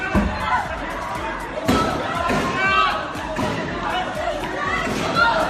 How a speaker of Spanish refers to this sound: Eso que se oye de fondo son disparos. ¿Te acuerdas de este sonido? Se escuchó en la madrugada del 13 de noviembre de 2015. Un grupo de yihadistas hace 6 años atacó la sala Bataclan y otros puntos de París y provocó 131 muertos.